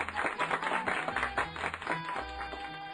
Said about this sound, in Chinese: 森林里的每一片叶子听了老鼠的读书声都笑了，他们一起给老鼠鼓掌。